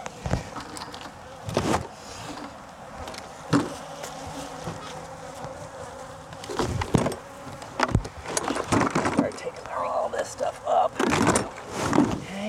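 Steady honeybee buzzing from an open hive in an apiary, a dense droning hum from many bees, as a board with bees on it is handled and shaken, with occasional knocks and rustling handling sounds breaking through.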